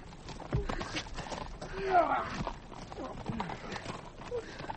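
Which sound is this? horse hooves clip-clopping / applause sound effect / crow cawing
horse hooves clip-clopping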